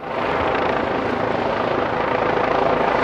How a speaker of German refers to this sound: Ein Hubschrauber fliegt mittags über das Auswärtige Amt.